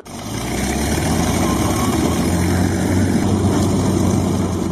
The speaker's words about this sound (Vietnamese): Tiếng động cơ nổ rò.